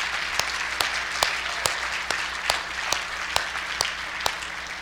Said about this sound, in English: You got to keep clapping. They're walking slow. Real slow.